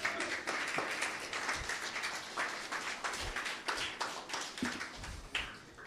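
A crowd applauds steadily for several seconds, a dense wash of many hands clapping with sharp individual claps poking through, fairly loud and without voices.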